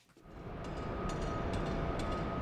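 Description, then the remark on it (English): Heavy machinery rumbles steadily with a faint high whine running through it, while sharp metallic hammering knocks strike every half second or so, as construction workers put the facade on a new engineering building in the northwest corner of the University of Wyoming campus. No one speaks. “The sounds of hammering and heavy machinery ring throughout the northwest corner of campus, where construction workers are putting the facade on a new engineering building.”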